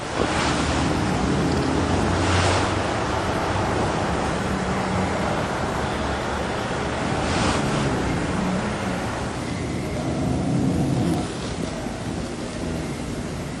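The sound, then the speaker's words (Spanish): City street at 2 a.m. with cars passing: a constant loud rushing hiss of traffic, swelling briefly as a couple of vehicles sweep by, then settling back to a steady roar. No voices. “los coches que parece que nunca dejarán de pasar. 2 de la mañana y así suena la ciudad.”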